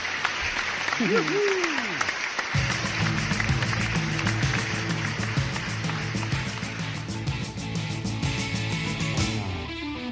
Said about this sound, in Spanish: Pero dejarme, por favor, dejarme que hoy mi aplauso de las 12 sea para vosotros, para la banda.